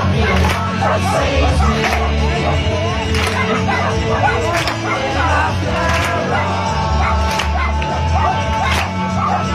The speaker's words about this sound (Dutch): Maar het halve restaurant ging meezingen en meeklappen. En ook allemaal honden deden mee op de achtergrond. Luister even mee.